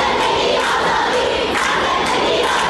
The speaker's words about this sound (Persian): علارغم این سرکوب شدید، خیابان ها شلوغ هستند و صدای شعار قطع نمی شود. تجمعات محدود به مناطق مرکزی شهر نیست. اینجا غرب تهران است، سردار جنگل.